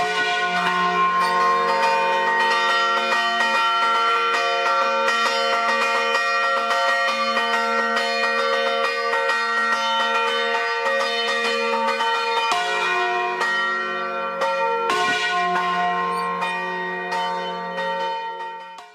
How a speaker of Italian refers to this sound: Possiamo sentire per esempio il suono delle campane di Lo Stallo, fatto per la novena di Natale.